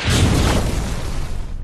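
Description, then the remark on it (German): A heavy, muffled thud of a girl landing hard on a gym mat after running up, jumping off a springboard and flying over a vaulting box, a deep low thump with a noisy crash that slowly fades over a second or so, with no voices. “Sie nahm Anlauf, rannte los, schneller, immer schneller, sprang aufs Sprungbrett, flog hoch durch die Luft und dann knallte sie auf die Matte.”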